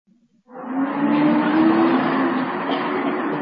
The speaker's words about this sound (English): A bus arrived.